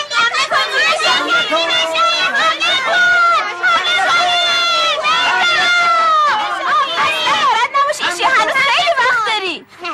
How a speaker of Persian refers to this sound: آفرین بچه ها، اگه همینجوری تشویقم کنیم بعد از بازی آب میره مهمون من.